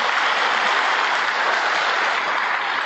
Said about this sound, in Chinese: 咁啊，三少应该鼓掌啊，多谢。